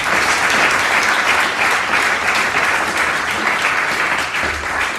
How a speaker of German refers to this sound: Also nochmal einen riesen, riesen Applaus